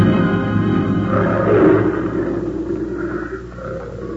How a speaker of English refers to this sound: Them cats are sounding off tonight.